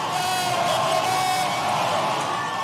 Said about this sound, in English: the crowd at the Orpheum Theater in downtown Madison is going berserk.